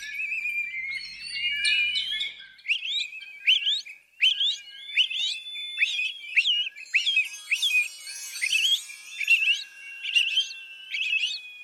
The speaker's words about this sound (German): Den Gesang der Singdrossel kann man sich auch mit einigen lautmalerischen Merksätzen einprägen. Der wohl schönste stammt aus der Schweiz und ist ein Frage- und Antwortspiel mit Brocken von Französisch und Schweizerdeutsch.